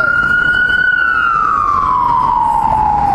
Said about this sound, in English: Ambulance. I hope everyone's okay.